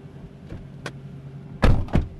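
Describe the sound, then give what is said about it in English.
A door of a white Google self-driving car shuts with a solid thud, followed quickly by a second heavier thump, after a few lighter clicks and bumps of people settling in. “Right, we're all in.”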